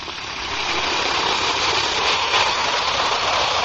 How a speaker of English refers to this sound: brought to you by the makers of Alka-Seltzer. Now, listen to It Fizz.